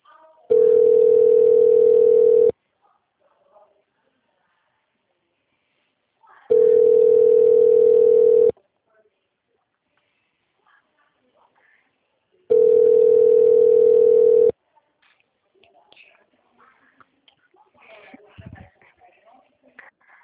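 telephone dial tone

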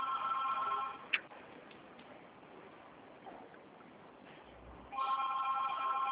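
telephone ringing

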